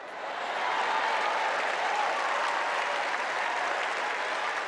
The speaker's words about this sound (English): Hillary Clinton was greeted with wild and sustained applause that lasted for more than 2 minutes before she was finally able to quiet the crowd.